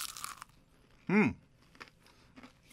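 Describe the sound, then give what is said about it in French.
A loud, crisp crunch of someone biting into a crispy chicken nugget without sauce, followed by a brief voiced murmur and then quieter, intermittent chewing noises. “Là, c'est vrai, des croquettes, c'est bon.”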